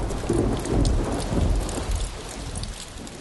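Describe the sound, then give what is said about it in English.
Heavy rain pours down on a Sunday morning after raining all night, in a dense, steady hiss, with scattered sharp drop sounds and a deep rumble swelling underneath during the first half, then easing to a constant downpour. “It poured all last night. Looks like it's really going to open up soon.”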